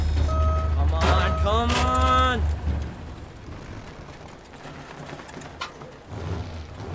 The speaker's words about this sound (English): Is that another car? Sounds like a tank.